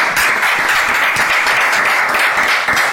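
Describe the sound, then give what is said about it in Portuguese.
Loud, sustained applause from a crowd, dense clapping filling the whole stretch without pause, steady with no voices standing out. “Fuerte aplauso.”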